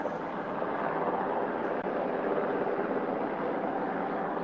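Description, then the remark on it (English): A loud, steady roar of a military helicopter flying overhead, its broad rumbling drone continuous and unbroken, with no voices present. “Well, we got helicopters here. We're going to have another outtake this week. Last week it was bells. This week it's military helicopter.”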